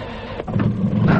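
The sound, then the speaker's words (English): A car engine grinds and whirs as it struggles to start, a steady low mechanical churning that rises slightly in strength toward the end without catching. “Come on, stupid bloody car.”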